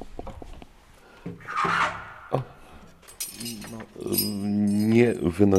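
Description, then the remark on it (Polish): A bunch of church keys jangles in the parish priest's hand, a few short metallic clinking bursts, before someone starts talking over the quieter rattle. “Nie wyrzucam, klucze przerzucam, bo trzymam w ręku klucze od kościoła.”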